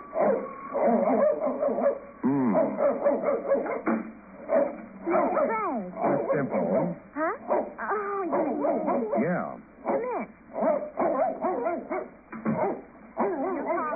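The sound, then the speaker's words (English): A small dog barks and yips excitedly in rapid, high-pitched bursts, loud, with a few whiny whimpers mixed in over about fourteen seconds. “Well, could you quiet that monster?”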